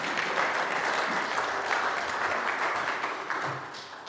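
Steady audience applause, a dense wash of many hands clapping at a fairly even level for about four seconds, easing slightly toward the end. No one speaks over it.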